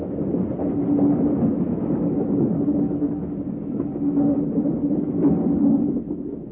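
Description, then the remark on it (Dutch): Steady low rumble of a train in the Netherlands, just leaving Amersfoort toward Zwolle, rolling along the rails, continuous and fairly loud throughout, with a faint humming tone riding over the rushing noise and no talking. “We rijden nu al uren en uren. De trein stopt overal.”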